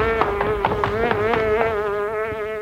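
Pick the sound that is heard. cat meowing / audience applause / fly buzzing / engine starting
fly buzzing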